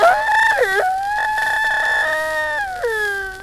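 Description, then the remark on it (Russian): A rooster calls loudly in a long, strained run of clucking cries with sliding pitch dips, almost continuous for a few seconds with no talking. “Батюшки, петух. А петухи чем болеют, а?”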